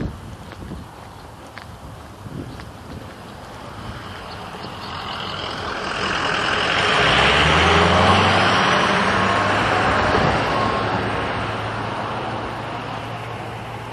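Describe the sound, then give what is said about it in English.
Traffic roars past on a road, with a heavy vehicle's rumble swelling to a peak midway before easing off, its low engine drone and tire hiss steady beneath. No one speaks. “Noisy vehicles, and I was coming up behind a couple of dog walkers.”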